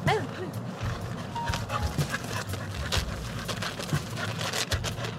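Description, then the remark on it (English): A little red-brown, foxy-looking retriever dog at a park whimpers with high, rising whines at the start, followed by scattered short barks and huffs against steady outdoor background noise. “The smartest dog at the park is a little red-brown foxy-looking retriever named Isla”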